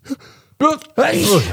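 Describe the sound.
A faint breath, then a voiced, drawn-in 'ah' wind-up that breaks into one loud, explosive sneeze, close to the microphone and heard on its own.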